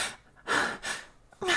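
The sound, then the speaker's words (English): Heavy breathing: four loud, airy breaths in quick succession, sharp and gasping, with brief quiet pauses between them and no talking. “You're breathing pretty heavily.”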